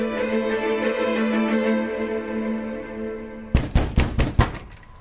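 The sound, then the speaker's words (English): A sustained tonal music bed fades, then five sharp knocks land on a door in quick succession, loud, their hollow thuds clearly separated with a slight uneven rhythm. “Part of me knew the knock at the door would come.”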